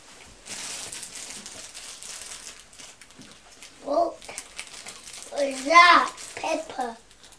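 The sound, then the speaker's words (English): A small plastic bag, the wrapping of a child's beaker, crinkles for a few seconds, a light, papery rustle, followed by a young child's high-pitched vocal sounds. “Oh, that's a little plastic bag.”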